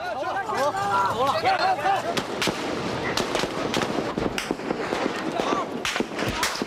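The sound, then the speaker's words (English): Irregular bursts of gunfire crack out again and again, sharp and loud, during the shooting in the early hours of June 4th at Tiananmen Square, over a constant roar of commotion, with shouting voices rising and falling during the first couple of seconds. “In the early hours of June the 4th, the shooting began.”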